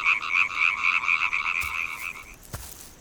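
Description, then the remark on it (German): A dense chorus of European tree frogs calling in rapid, rattling pulses, loud and continuous for about two seconds before fading, with a couple of sharp clicks near the end. “Hör mal, hier sind Laubfrösche.”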